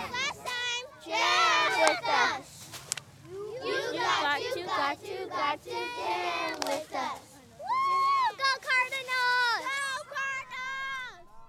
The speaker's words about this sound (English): cheering at the Salvation Army Croc Center in Phoenix.